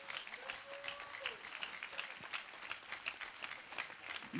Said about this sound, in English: Everybody give a lot of clap offering. Hallelujah. That's not a super clap offering.